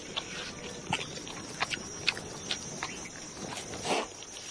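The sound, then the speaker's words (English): Crunchy gnawing as a porcupine uses its large incisors to chew through the tough outer shell of a Nara melon among desert dunes, with irregular sharp scraping bites and cracks over a soft rustling background, no voices. “Nara melons have a tough outer shell, but the porcupine's large incisors make short work of them.”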